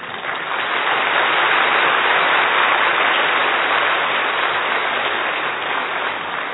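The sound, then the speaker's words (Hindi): Sustained, dense applause from a large crowd clapping very loudly for themselves, a steady wash of many hands clapping at once with no individual claps standing out, fairly loud throughout and with no voices over it. “अपने लिए दिल से बहुत जोर से ताली बजानी चाहिए, अरे वाह हम बाबा के स्नेह के पात्र भी हैं और अनुभवी भी हैं।”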